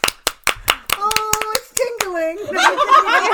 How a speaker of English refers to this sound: Give it applause.